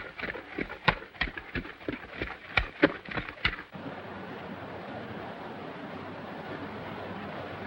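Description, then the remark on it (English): Hooves clip-clop along a trail in a quick, uneven rhythm of a dozen or so sharp knocks, then stop and give way to a steady rushing wash like flowing water or wind. A miner leads a mule carrying a large pack along the trail. “Ahead on the trail, the miner, Dusty, leads a mule carrying a large pack.”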